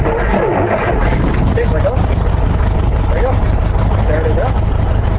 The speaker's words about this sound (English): So go ahead and keep turning it till you hear the engine catch. Okay. Just hold it in just like you would a car till it starts. Okay.